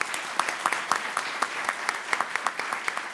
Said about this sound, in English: Let's give our student panel a round of applause, please.